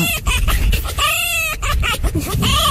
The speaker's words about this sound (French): Écoutons le renard qui rigole, c'est ça ? Oui.